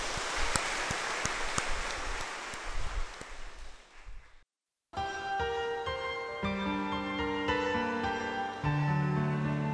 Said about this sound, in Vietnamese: Chúng ta có một tràng pháo tay để chúc mừng cha và mọi người.